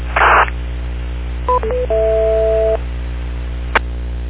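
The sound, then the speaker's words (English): Touch-tone phone dialing: a few quick dual-tone beeps followed by one longer held tone, heard over a steady radio hiss, with a burst of static before and a sharp click after. “Maybe you can give a little rundown on that tone on the touch tone phone stick.”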